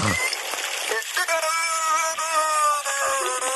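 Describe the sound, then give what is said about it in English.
A beluga whale mimics the speech of scientists studying it, heard through underwater speaking devices: a warbling, nasal, voice-like tone that wavers in pitch for a few seconds over a steady hiss, after a brief low thump at the start. “No, this beluga whale is imitating the scientists that I think were studying him, and he could so hear them creepy.”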